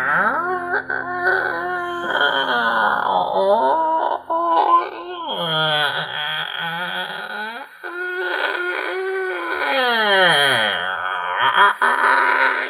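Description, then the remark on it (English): A person imitates the squeaking door of a tall abandoned guards tower creaking open with a long, loud, wavering vocal groan. The pitch slides up and down in strained, squealing stretches, broken by a couple of brief pauses. “Arthur hears how bad it's squeaking and it's just like fucking hell and just shoves it open.”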